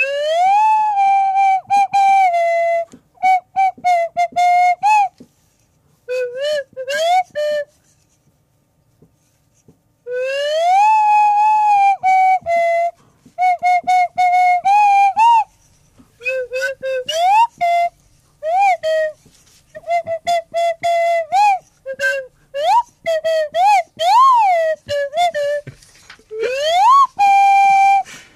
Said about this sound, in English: Oh! Okay, here from the romantic Valentine's Swanee Whistle album from the one that doesn't speak is the first track.